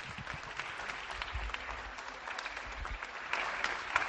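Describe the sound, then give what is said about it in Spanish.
Steady, continuous clapping from many people at windows and balconies in Zaragoza, Spain, applauding health workers, echoing off surrounding buildings, with a few sharper claps rising toward the end. “Comienzan los aplausos.”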